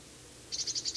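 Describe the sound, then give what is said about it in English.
A bird at the very top of a pine tree gives a type 3 call: a quick run of about six short, high-pitched chip notes, evenly spaced and fairly loud over a faint steady hiss, with no voices. “Can't quite see this bird. It's giving a type 3 call.”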